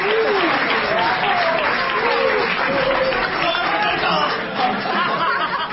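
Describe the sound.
An audience claps steadily and densely for the full six seconds, with loud excited voices and shouts rising above the applause.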